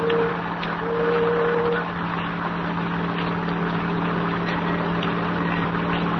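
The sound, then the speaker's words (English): A car engine hums steadily at a moderate level, its low drone holding even for several seconds as the car pulls away and drives on in the rain, with no voices. “Then the door slammed, and we were driving off.”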